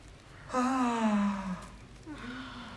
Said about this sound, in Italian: E a volte se lo facciamo bene ci scappa uno sbadiglio, bellissimo. È proprio, vuol dire che si rilassa il sistema nervoso e il diaframma comincia a respirare sbadigliando, si stiracchia il diaframma